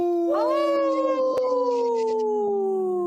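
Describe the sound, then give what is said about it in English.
A person imitates a wolf on Native Roots Radio with one long, loud howl that works the word "no" into it. It rises quickly, then slowly slides downward in pitch, holding a steady wavering tone for about three seconds, in a segment about Minnesota's wolf population. “See how I said no? Yeah. In the howl?”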